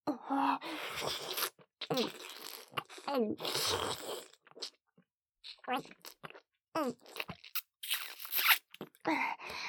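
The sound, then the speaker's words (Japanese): Wet slurping mouth sounds full of saliva, made while performing oral sex on a penis, come in repeated bursts with short pauses, mixed with soft voiced murmurs and breathy vocal sounds. “唾液まみれでズルズル濃厚すっぽんヘラで感じちゃってるじゃない。”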